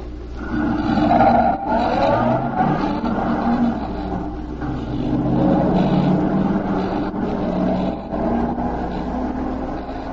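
car pulling away

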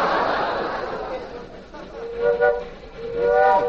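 train engine whistle

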